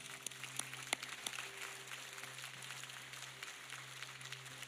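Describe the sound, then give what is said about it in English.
An audience claps steadily for one person who put their hand up, a dense patter of many hands over a low electrical hum, fairly soft throughout with a few sharper claps standing out early on. No one speaks. “I hope you hear that clap, because the truth is, heaven is rejoicing at your decision.”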